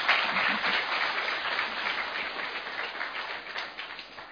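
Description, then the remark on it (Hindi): An audience applauds with both hands, many hands clapping in a dense, continuous patter that stays fairly even for a few seconds, with no voices on top. “इसलिए एक बार केवल एक हाथ की ताली नहीं, दोनों हाथ की ताली बजाएं।”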